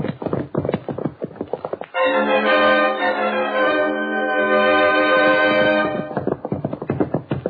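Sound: horse galloping away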